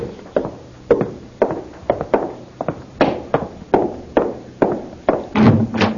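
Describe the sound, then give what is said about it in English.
Steady, repeated knocking at a front door, a long run of dull, evenly spaced thuds at moderate volume, heard alone without any voices. “Oh, what now? Someone at the door. I'll get it.”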